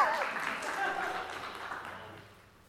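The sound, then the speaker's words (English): An audience claps and cheers in a dense, crackling burst that starts loud and gradually fades over a few seconds, with a few voices mixed into the applause. “You go ahead and clap for that.”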